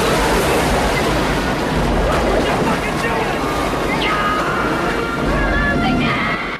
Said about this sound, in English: They head towards the rapids at the bottom of the canyon. The water cascades down a series of steps in the riverbed, forming a narrow channel of foaming water underneath the sheer rock cliffs. They plunge over a vertical drop.